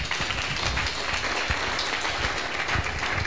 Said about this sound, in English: Please, let's clap for him.